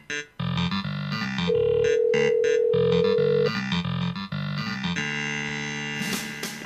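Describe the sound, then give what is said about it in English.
A phone rings with a loud electronic ringtone, a synthesized melody of repeating tones including one long held note, playing steadily for several seconds with no voices. “It started ringing right on time.”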